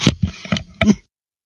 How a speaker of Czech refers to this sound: Tak zase malou kašlací pauzičku